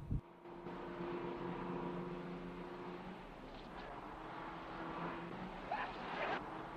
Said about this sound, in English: A bus stops and they get in.